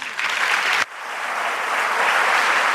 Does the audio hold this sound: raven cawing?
no